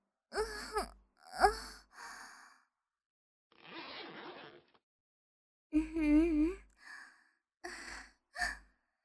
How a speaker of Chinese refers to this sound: 学长的喘息又开始带有色情的味道了，很浓郁呢，属于男人的味道。